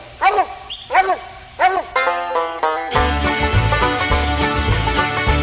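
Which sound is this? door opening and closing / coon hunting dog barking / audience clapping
coon hunting dog barking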